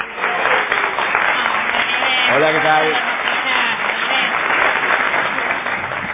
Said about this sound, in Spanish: No menos injustificada será la ovación tributada a …